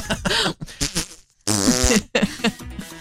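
A loud, drawn-out fart sputters and rasps in several bursts, with a brief gap near the middle before a long, wobbling blast, with no talking; a man in Austria breaking wind loudly in front of police officers during an encounter with them.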